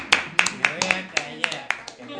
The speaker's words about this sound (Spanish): Un aplauso para la pareja.